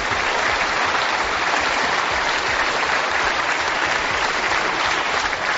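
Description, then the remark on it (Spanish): Steady applause from an audience of business leaders for King Juan Carlos at the Círculo de Empresarios award ceremony in the Palacio del Pardo, a dense wash of many hands clapping at an even loudness throughout, with no voices rising above it. “Por ejemplo, ha sido aplaudido por la mañana por los empresarios en un premio, en la entrega de un premio del Círculo de Empresarios en el Palacio del Pardo.”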